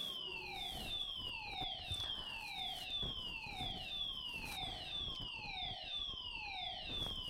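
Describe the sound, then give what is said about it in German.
A smoke detector alarm blares steadily, a loud electronic tone that sweeps downward in pitch over and over, roughly once every second, with no voices over it. “Ah, der Rauchmelder ist angegangen.”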